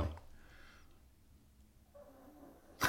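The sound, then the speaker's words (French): A dog named Stella snoring softly, two faint raspy breaths drawn out over a few seconds, with a low rumble beneath and no one talking. “J'adore ça, ton chien ronfle.”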